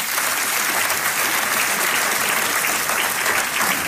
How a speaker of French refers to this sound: C'est ça que, alors juste pour honorer tous ceux qui sont chrétiens depuis 20 ans, 30 ans, 50 ans, 60 ans, est-ce qu'on peut les applaudir bien fort?